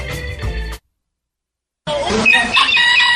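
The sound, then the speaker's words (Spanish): A rooster crows loudly, its strained, harmonic call cut into two bursts by a short silent gap, with no voices present. “Está anunciando el gallo la próxima venida de Jesús.”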